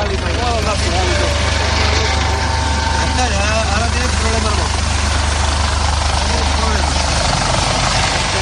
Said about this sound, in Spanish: Uno de los helicópteros de vigilancia aduanera persigue casi a ras de agua una embarcación en la que van 3 ocupantes.